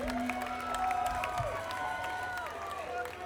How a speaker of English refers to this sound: thank you all for coming out tonight. Give yourselves some applause for coming out to the show.